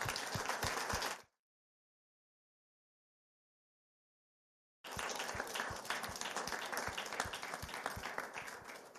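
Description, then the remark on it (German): Loud, dense audience applause in a senate hall for two guests after a talk, with many overlapping claps, cut off abruptly into a few seconds of total silence, then resuming just as thick and steady until the end. “Haben Sie vielen Dank und einen riesen Applaus für Sie.”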